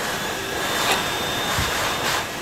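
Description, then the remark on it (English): A hand dryer blows steadily into the listener's face, a loud continuous rush of air with a thin high-pitched whine running through it and no voices. “And now you're listening to a wonderful hand dryer being blown in your face.”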